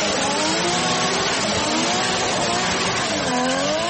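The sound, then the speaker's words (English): A loud NASCAR stock car engine roars continuously for several seconds, its pitch rising and falling as it revs, with a dense, gritty mechanical drone and no voices. “Also back on the track is stock car racing, as NASCAR crews are working on cars right now for a run Sunday at Darlington Raceway in South Carolina.”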